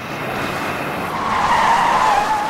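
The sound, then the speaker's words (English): A car speeds into Meadow Lake and skids to a halt, raising dust as it pulls up at the church, tires squealing in a rising, wavering tone that peaks before stopping, over a broad gravelly rush of noise. Loud and steady throughout, no voices. “A car speeds into Meadow Lake and raises dust as it skids to a halt and pulls up at the church.”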